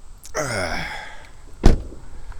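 A car door swings open with a drawn-out squeaky creak, then shuts with a single solid thud a second later, fairly loud, with no voices, as people get out of the car.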